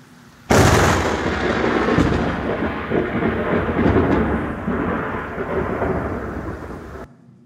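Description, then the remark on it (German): A sudden, loud thunderclap from a lightning strike cracks in at once, then rolls into a long, heavy rumble that stays strong for several seconds before cutting off. No voices are heard. “Und ich habe jetzt so einen kurzen Clip von so einem Blitz.”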